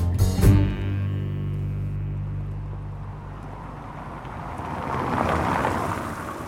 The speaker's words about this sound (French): Commission européenne, toujours ce bruit de fond de voitures, de circulation et de chantier qui est propre à Bruxelles.